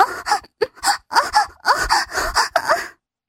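A woman pants and moans breathlessly in a quick series of short, voiced bursts, fairly loud, with no words spoken, before falling silent.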